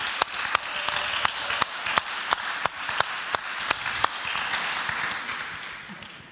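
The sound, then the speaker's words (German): An audience applauds steadily, a dense wash of clapping with sharp, evenly spaced claps beating through it in a regular rhythm, fairly loud throughout and easing slightly toward the end. “Und ich finde, wir dürfen Ihnen gerade einfach mal einen Applaus geben für Ihre coole Art.”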